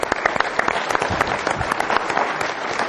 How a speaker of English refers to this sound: Let's have applause.